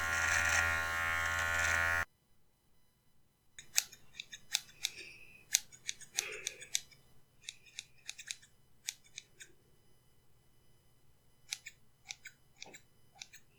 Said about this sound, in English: And I'm just gonna switch to the scissors for the top.